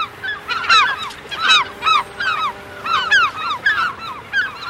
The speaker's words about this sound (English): If you've ever stood on a Seattle wharf outside a fish and chips restaurant and flung a French fry into the air, you've heard this call. It's Puget Sound's most common gull, the glaucous-winged gull.